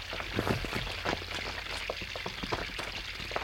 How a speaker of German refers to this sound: Das Wasser läuft den Gang nach unten. Es zeigt uns den Weg zum Mittelpunkt der Erde.